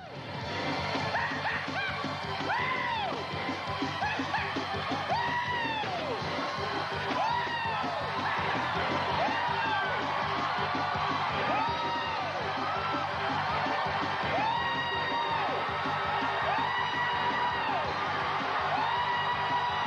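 A packed charismatic church audience shouts and whoops nonstop, dozens of overlapping voices rising and falling in excited yells and cries, loud throughout with no pause.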